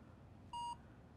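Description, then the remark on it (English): A single short electronic beep from the barcode scanner of a phone authenticator app as it scans a barcode, a clean steady tone lasting about a fifth of a second, rising clearly above a quiet background hum with no talking. “Scan the barcode. This is the barcode scanner.”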